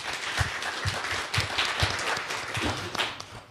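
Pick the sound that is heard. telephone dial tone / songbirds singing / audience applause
audience applause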